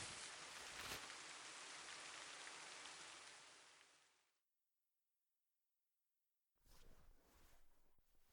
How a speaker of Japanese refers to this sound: ん？雨？ やっぱ降ってきやがった。荷物片付けてどっかで雨宿りすんぞ。